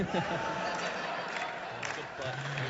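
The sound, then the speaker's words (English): An audience at a live trivia game segment about Dungeons & Dragons monster names applauds in a steady, dense wash of clapping that lasts the whole moment, mixed with cheering and overlapping voices from the crowd. “Biggest applause we've got yet.”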